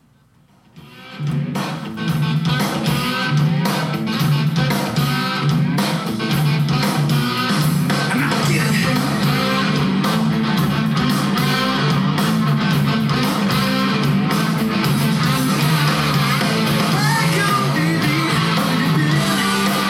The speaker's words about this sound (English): So this is like very sludgy rock and roll, but it's very 90s rock and roll too. Yeah, you know this could have been, this should have been a big hit, I think.